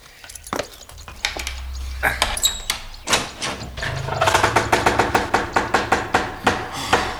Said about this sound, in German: So, ich werde mal aufschließen.